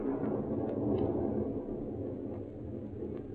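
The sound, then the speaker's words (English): A low, continuous rumble of distant thunder before a storm rolls steadily through the whole stretch, deep and muffled, with no voices over it. “That storm's going to break any minute now.”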